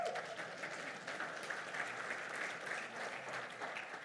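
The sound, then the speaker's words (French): Steady, sustained applause from an audience celebrating a woman's 27 years of marriage fills the whole stretch, a dense wash of many hands clapping at an even level with no talking over it. “Et je comprends bien ici que vos applaudissements, c'est pour la félicité de tout le travail qu'elle a fait pour ces 27 années-là.”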